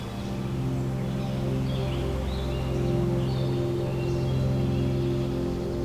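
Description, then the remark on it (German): Scattered bird chirps and short tweets come and go over a continuous, steady low wash of waves that holds an even level throughout, with no one speaking. “Das Rauschen der Wellen und das Zwitschern der Vögel.”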